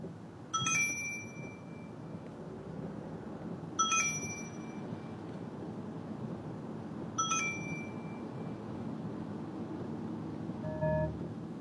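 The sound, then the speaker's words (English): A video game key pickup effect: three bright, bell-like chimes ring out about three seconds apart over a steady low background noise, followed by a softer short tone at the end. “Keys being collected.”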